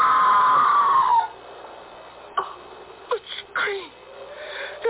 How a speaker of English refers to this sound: That was a scream, Sir Leonard. Not the wind playing tricks. It was a scream, wasn't it?